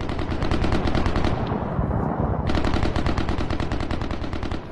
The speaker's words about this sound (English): So people are experiencing the fighting and they're hearing the heavy gunfire.